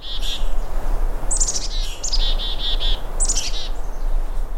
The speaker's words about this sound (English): So in that recording, there are two species of chickadees, black cap and mountain chickadees. There are Steller's jays. There's also red squirrel and red-breasted nuthatch.